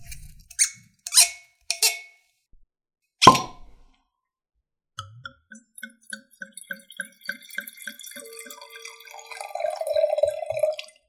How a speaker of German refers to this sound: Aber bevor wir das anstoßen, das Thema, stoßen wir mal an.